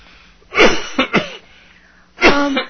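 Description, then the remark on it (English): Several loud coughs from two people, with no talking: a harsh cough, two quick short ones, then after a pause a longer, raspy cough. “Sounds like we're both coughing”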